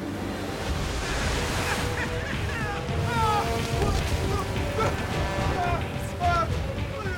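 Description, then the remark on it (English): Big, towering ocean waves roar and break over a small boat in a loud, continuous wash of surf and wind, with rain falling in thick mist and faint indistinct voices rising over the churning water. “opens his eyes, and is confronted by towering waves which break over the small boat.”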